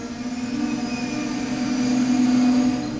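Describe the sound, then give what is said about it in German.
A Frecciarossa high-speed train rolls into Napoli-Afragola station in Naples, Italy, beside a nearly empty platform, with a steady, swelling mechanical hum and a sustained whine, growing slightly louder toward the end; no voices are heard. “Ein Hochgeschwindigkeitszug, eine Frecciarossa, rollt im Bahnhof Napoli-Afragola ein.”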